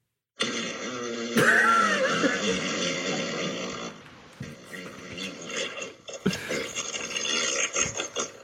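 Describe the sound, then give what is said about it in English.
A long, loud fart sound effect, buzzing and rippling for several seconds before trailing off into rougher, sputtering bursts. “Long fart. Here comes a long fart.”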